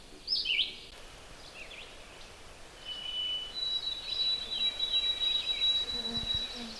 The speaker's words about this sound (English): Red-eyed vireo.